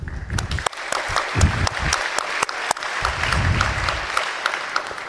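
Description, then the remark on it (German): A crowd claps steadily for several seconds, a dense patter of many hands with a few sharper, louder claps standing out, lively throughout. “nochmal ein ganz kleiner Applaus.”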